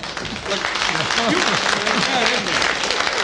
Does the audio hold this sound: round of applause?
yes